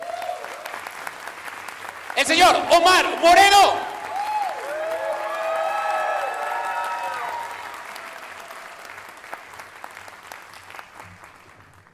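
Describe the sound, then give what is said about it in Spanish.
An audience at a comedy show in Mexico City breaks into sustained applause while a man loudly announces a comedian from Sinaloa over a microphone. The clapping swells, holds steady for several seconds, then gradually thins out. “Venga, ese aplauso, por favor.”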